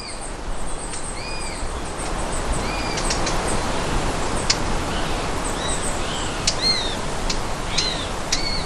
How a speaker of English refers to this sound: We've had grey spotted woodpecker and we've had cuckoos, and now we have sparrowhawk chicks making that contact call, trying to get fed.